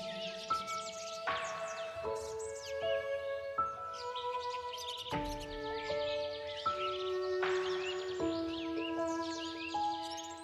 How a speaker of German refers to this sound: Hörst du das Gezwitscher der Vögel, das Summen der Bienen?